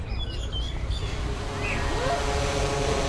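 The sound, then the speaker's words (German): A delivery drone, an ordinary model, flying in with a tea delivery and descending slowly to land on the roof of a metal box: a steady, loud mechanical drone with a thin tonal whine that emerges and grows in the second half, while a few faint bird chirps sound early on. “Tatsächlich, ein bisschen später höre ich sie. Die ist richtig laut.”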